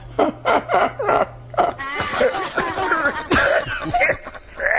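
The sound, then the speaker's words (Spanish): Loud bursts of wheezy laughter from Don Cascas, an asthmatic man, turn into a run of harsh, rhythmic coughs, followed by strained, throaty gasps and sputters. “No empiece a reírse, Don Cascas, porque luego le viene la tos.”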